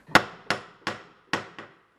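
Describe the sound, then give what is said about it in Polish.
Five sharp, loud knocks from a door knocker on a beautiful carved door at the headquarters of the Most Cultural and Educational Association (Stowarzyszenie Kulturalno-Edukacyjne Most), each ringing briefly. The first four are evenly spaced and a quicker, softer fifth follows. No one speaks. “Kołatkę tak, mają tak, można zakołatać.”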